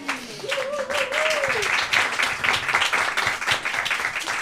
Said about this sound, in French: Ouais, carrément double ration d'applaudissements, hein, ça fait jamais de mal ça.